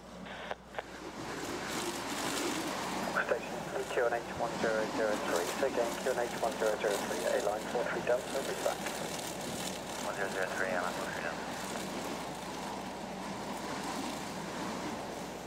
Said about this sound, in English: Watch this plane landing during high winds, crosswinds. 180 degrees, 26, gusting 40 knots.